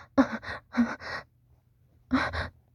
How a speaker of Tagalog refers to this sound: Bakit ako hinihingal? Nag-i-exercise ako.